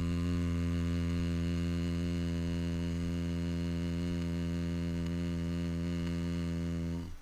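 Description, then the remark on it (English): A steady, low-pitched closed-lip hum, done while exhaling as a voice resonance-building exercise, holds on one note for about seven seconds, fairly loud, then fades out as the breath runs out. No one speaks. “Keep your lips together, and as you exhale, hum.”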